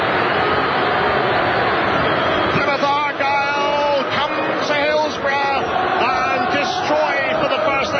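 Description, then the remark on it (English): A football crowd of Plymouth Argyle home fans cheers at the referee's final whistle after a victory, in a loud, sustained roar, with shrill whistles and shouted voices rising through the din after the first few seconds. “The cheers will tell you that it is as soon as the whistle goes from the referee.”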